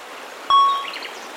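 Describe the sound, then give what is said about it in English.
A steady, even rush of running water at an animal park fills the background, with a single bright chime ringing out briefly partway through and fading into the flow. No one speaks. “I can hear water.”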